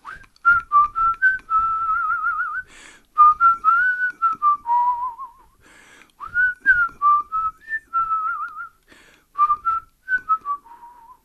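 A person whistles a lively melody as part of a music composition, clear bright notes in several phrases with brief pauses between them, no talking underneath.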